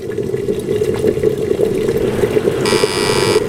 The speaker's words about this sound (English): Is it a kettle? It is a kettle, but unfortunately I didn't hear with my little ear you saying I hear with my little ear, so I'm afraid I can't allow any points.